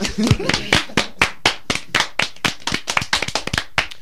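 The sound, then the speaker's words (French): An audience claps together in a steady burst for a poetry performer, many sharp hand claps overlapping at a brisk, slightly uneven pace, loud for about four seconds. “Messieurs, dames, on va l'applaudir, non, l'applaudir directement, et pour la première fois ce soir, on va l'applaudir directement une quatrième fois.”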